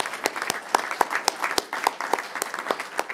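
An audience applauds steadily, many hands clapping in a dense, crackling wash with sharper individual claps standing out at irregular moments. No voices are heard.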